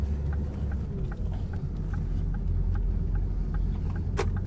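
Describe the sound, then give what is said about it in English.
A cold car engine, just started, rumbles steadily, running a bit rough with a faint regular ticking over the low drone and a brief sharp click near the end. “Engine's cold.”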